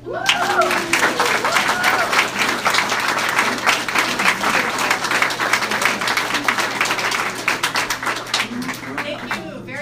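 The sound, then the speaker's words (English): A large crowd applauds steadily for the full stretch in the morning, dense overlapping clapping at an even, loud level, with a few voices and cheers rising briefly near the start. “To be here again, and what a great crowd this morning.”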